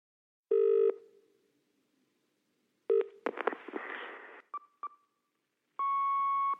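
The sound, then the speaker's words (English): An answerphone message beep: a sharp electronic tone, a burst of clicks and mechanical whirring with quick blips, then a final steady beep. Fairly loud, no talking. “And the answer phone message, well, that explains everything.”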